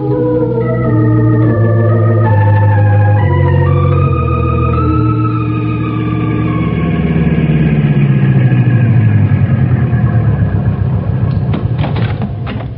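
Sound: car engine running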